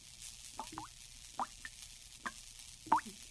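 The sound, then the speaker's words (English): Water drips steadily in an irregular rhythm from a water tank burst by a shotgun shot into the ceiling, about half a dozen distinct plinks and plops, with no voices, just a faint background hiss. “He fired the second shot up into the ceiling and burst the water tank.”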